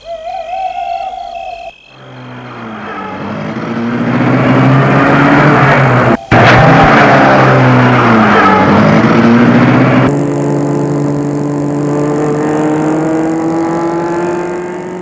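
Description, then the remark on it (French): After a brief tonal hoot, a car engine turns over and catches, revving loudly and steadily, then accelerates away with a rising, droning pitch as a man gets into his car, starts it and drives through an opened gate toward a château. No voices. “Gilbert va entrer dans sa voiture.”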